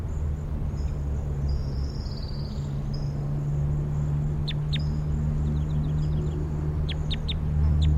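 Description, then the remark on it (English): A sparrow sings a thin, high-pitched song of warbling notes, then brief sharp chirps and a quick run of rapid ticks, over a steady low hum with no talking. “Long Sparrow right behind 5-7.”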